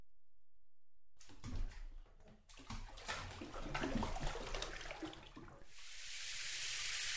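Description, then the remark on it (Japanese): Water splashes and sloshes in a bathroom with a bathtub and a single shower, then settles into the steady, hissing spray of the running shower that continues to the end. No one speaks. “もう君は先に湯船使ってなさい。シャワーは一つしかないんだから。”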